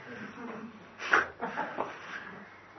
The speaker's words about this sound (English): The dog needs attention. It's the dog again.